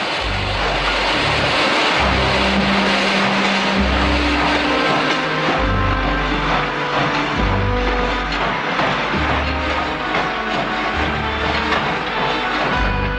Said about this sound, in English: The train lumbers slowly out of the station.